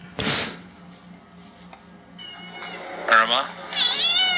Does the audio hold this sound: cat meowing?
yes